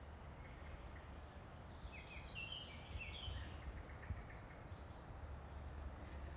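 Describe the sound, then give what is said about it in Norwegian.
Birds sing in short, repeated trilling phrases, with a pause between bursts, sounding fairly soft over a steady low background rumble. “Og fuglene sang for ham helt til han sovnet.”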